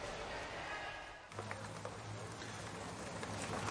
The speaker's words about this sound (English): Oh, it's raining.